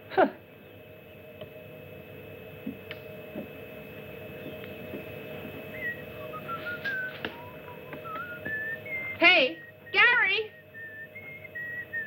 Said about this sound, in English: Would you quit that whistling? You're making me nervous. I'm not afraid when I whistle.